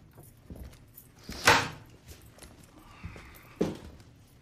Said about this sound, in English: Shamu opens the door for Trailer, who leans in the doorway.